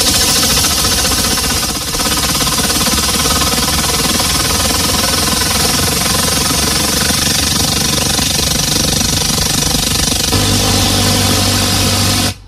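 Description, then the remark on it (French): A foley imitation of an airplane or helicopter, made with a fan: a loud, steady mechanical whirring drone with layered humming tones that runs unbroken for about twelve seconds, with no talking. “On commence avec le bruit d'un avion ou d'un hélicoptère et voilà ce que ça donne.”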